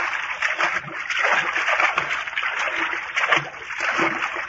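Water splashes and sloshes continuously as someone wades through it, fairly loud, with irregular surges of splatter and no talking.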